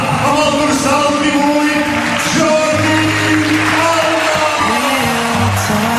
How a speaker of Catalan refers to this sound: Si us plau, rebem primer amb un fort aplaudiment el nostre lateral esquerre i tercer capità.